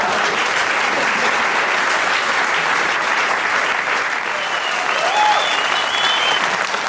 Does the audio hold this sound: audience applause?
yes